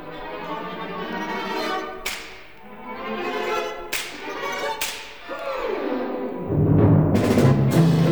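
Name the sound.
orchestral whip (slapstick) crack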